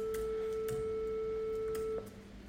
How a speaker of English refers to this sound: Bring your volume all the way down. Increase the volume slowly. That's a beautiful, smooth, continuous, and perhaps slightly boring sine wave. You can stop the sound with Control period.